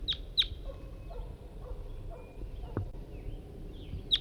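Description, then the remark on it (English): A red crossbill, bird 5-3, calls with sharp, high chip notes: two quick ones close together at the start and a single clear one near the end, over a quiet outdoor background where a net has been set up. “I just got out here a few minutes ago, set up the net, and I've only got bird 5-3 with me, and that's him calling right there.”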